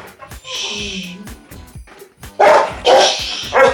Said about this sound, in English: Why is a dog barking? There's another dog barking. I know. I can't get this one to shut up because the other one won't shut up.